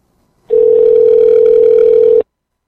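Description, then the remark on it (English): A steady telephone dial tone, as a call is placed, hums on one unbroken mid-pitched note for under two seconds, loud and even, then cuts off abruptly. No voices are heard. “I'm just saying, let's give them a call and discuss that.”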